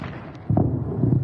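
A sudden deep boom hits about halfway through, followed by a heavy low rumble that rolls on to the end: explosions during a Russian missile attack on Ukraine, heard in the capital. No one speaks.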